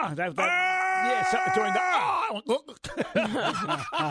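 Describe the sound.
A man lets out a long, loud, sustained battle-cry yell lasting over a second, held at a steady strained pitch, followed by brief overlapping talking and laughter.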